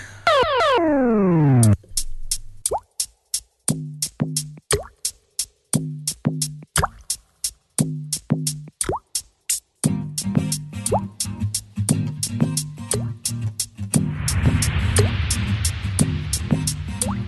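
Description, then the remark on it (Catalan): Rhythmic water drips and plops repeat in a steady pulse over low, throbbing synth tones in a played song, opening with a falling sweep and swelling into a denser, hissing wash near the end. “És de … i el tema es diu ….”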